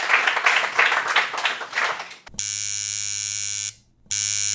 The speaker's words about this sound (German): Ein Applaus